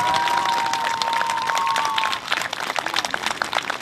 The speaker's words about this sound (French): C'est un vrai moment de l'athlétisme suisse. C'est un honneur pour nous tous. Quel est l'applaudissement pour les premiers?